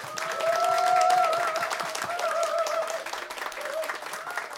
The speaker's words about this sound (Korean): 우리 박수로 한번 모셔보겠습니다.